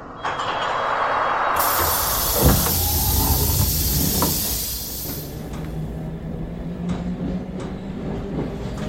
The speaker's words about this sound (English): This is Bromley by Bow. This is a District Line train to Richmond. The next station is Bow Road. Change for DLR from Bow Church. Mind the gap between the train and the platform.